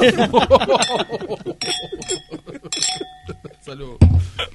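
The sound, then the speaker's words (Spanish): Glasses clink together in a toast, a few bright ringing taps that hang briefly in the air while several people talk and laugh. “Salud.”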